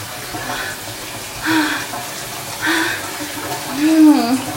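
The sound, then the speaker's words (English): Colder water pours steadily from a bath tap in a continuous hiss, fairly loud, while a few brief vocal sounds rise over the flow now and then. “So the water's colder because I was trying to get really sweaty.”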